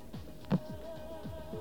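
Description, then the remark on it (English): A steady, unbroken telephone dial tone from a small in-house station phone system hums quietly throughout, joined by soft, recurring low thumps in the background. No one speaks. “Let's get our trusty dial tone.”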